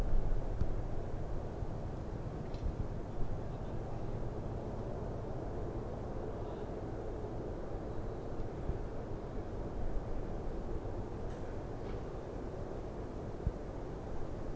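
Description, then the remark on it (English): A steady, low engine rumble from a riverboat going down the Rhine drones on without a break, with a faint far-off train echoing in the distance adding a soft continuous wash underneath and a bit of traffic in the background. No one speaks. “And the Atmo you can probably hear in the back, that's a ship going down the Rhine.”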